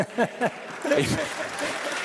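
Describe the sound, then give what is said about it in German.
A couple of brief vocal sounds, then audience applause breaks out in Bern, a dense, steady patter of many clapping hands with some voices mixed in, holding at a moderate level. “Ist der Applaus ein bisschen lauter hier zu Bern?”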